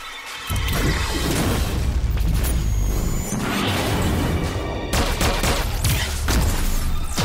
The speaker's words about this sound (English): Oh, so they're just gonna blow up the door? Attack! Kill those traitors, then destroy everything inside. The doors are viciously blown off, and laser beams begin to rain upon the heroes.